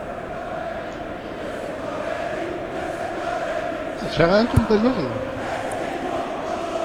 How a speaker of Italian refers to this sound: E intanto qualche coro anti-Napoli allo Juventus Stadium, non ci facciamo riconoscere anche in Champions League, vabbè.